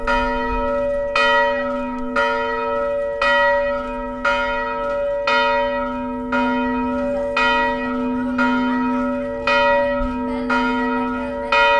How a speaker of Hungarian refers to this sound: Ünnepre hív a harangszó Vizsolyban